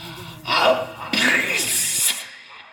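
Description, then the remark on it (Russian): A comical sneeze: a quick gasping intake of breath, then a loud, breathy, hissing burst that trails off. It is heard alone. “Особь прыснула чихом со звуком забавным.”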